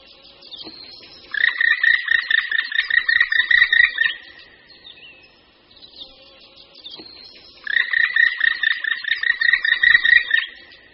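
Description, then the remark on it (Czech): A black woodpecker gives its year-round call, uttered when flying off a tree trunk, in two loud bursts, each a rapid run of harsh, high, repeated 'kri' notes lasting about three seconds, with a short pause between them and no talking. “Nápadný je hlas, kterým se datli černí ozývají po celý rok a který vydávají při odletu z kmene stromů.”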